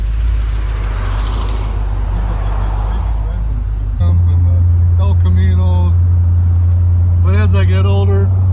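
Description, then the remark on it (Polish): A car engine drones low and steady, first with a rushing, revving noise as it seems to move off, then settling into a low idle while voices speak indistinctly over it. “But when you just pull it out like this, and you don't drive it, it idles real low.”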